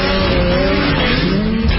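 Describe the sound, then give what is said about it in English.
A snowmobile's Rotax engine on the Rev Gen 4 platform revs loudly and steadily for a couple of seconds, a high-pitched whine with a gritty, droning edge and a slight rise in pitch, with no voices. “The unparalleled power of a Rotax engine.”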